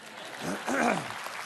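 An audience claps in a steady, dense patter for about a second and a half, with a brief voiced cry or cheer rising and falling in the middle.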